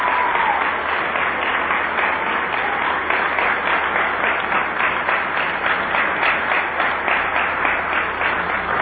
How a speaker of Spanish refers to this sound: Así que un aplauso para el ministro.